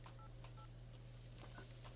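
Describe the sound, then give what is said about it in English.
Short telephone keypad tones beep in quick succession as a phone number is dialed on a backup landline, a few separate dialing beeps over a steady low electrical hum, fairly faint and with no one speaking. “So what we're going to try to do is we're going to try to give you a call on your super secret phone number.”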